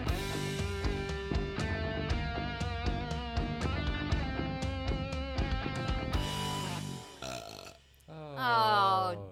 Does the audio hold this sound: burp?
yes